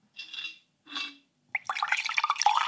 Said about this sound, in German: Wasser. Warte, ich gebe euch noch einen Sound dazu. Moment.